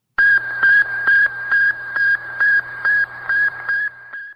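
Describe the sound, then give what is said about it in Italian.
Radio beep signal transmitted by Sputnik, the first satellite: a steady run of about nine short, high-pitched electronic beeps in an even rhythm, sounding over a low hum and faint static. “Il beep beep, probabilmente lo avrete riconosciuto. Era il segnale radio trasmesso dallo Sputnik, il primo satellite”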